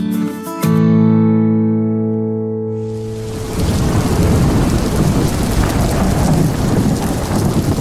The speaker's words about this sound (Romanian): Afară, furtuna își făcea de cap cu tunete și fulgere